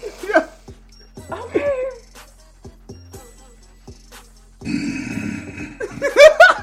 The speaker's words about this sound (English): He just growls again.